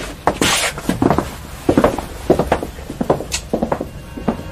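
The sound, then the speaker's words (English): Keys rattle and click in the lock of a basement door, followed by the clunks and creaks of the door being opened, a busy string of metallic knocks with no voices. “The keys opened the door to the basement.”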